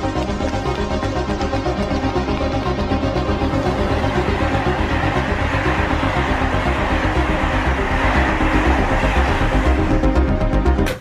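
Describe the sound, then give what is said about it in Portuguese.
A loud, steady mechanical rumble with a pulsing, throbbing rhythm and a broad hiss on top, like a train engine idling before it departs. No one speaks. “Há um trem que vai partir lá.”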